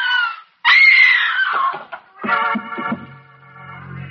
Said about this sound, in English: There's a long moment before she is aware of you standing there. And another instant before she screams and falls against the door casing.